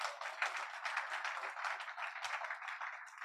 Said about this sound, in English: Clap as if your hands belong to you. Belong to you.